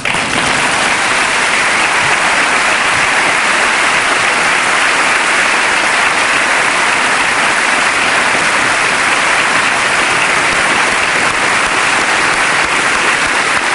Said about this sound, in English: Standing ovation for Hillary Rodham Clinton, who has stood in the gallery to acknowledge the applause of the Congress.